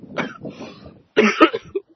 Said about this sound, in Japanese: いや、さらに咳込むスタイルで。